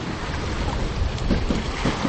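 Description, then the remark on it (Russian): A heavy barge loaded with red sand and sitting low to the waterline chugs upstream along a river with a steady low engine rumble, wrapped in constant wind and water noise, with faint rhythmic low thumps and no voices. “Вверх по течению ползет осевшая по ватерлинии баржа, груженная рыжим песком.”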